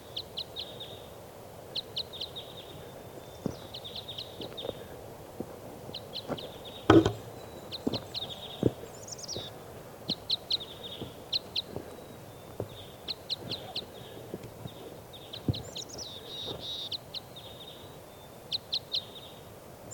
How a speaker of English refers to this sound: recording our crossbills here now. It's 5:07 a.m. It's on like type 5s.